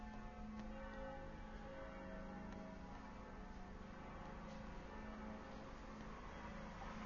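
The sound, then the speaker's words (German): Church bells ring continuously, their overlapping tones blending into a steady, full peal. No one speaks over them. “Sie läuten schon.”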